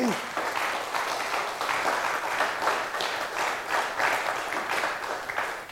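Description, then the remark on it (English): Sustained applause from a large audience at an event held at a Hochschule, given for the team streaming the sessions: a dense, even wash of many hands clapping that stays steady and loud throughout, with no single claps standing out. “So warm applause for the C3 VOC, please.”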